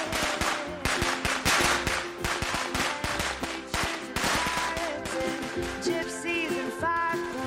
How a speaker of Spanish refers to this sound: Para unos es diversión estallar petardos, cohetes y tracas en la calle durante las fiestas, para otros es sufrimiento, absoluto terror.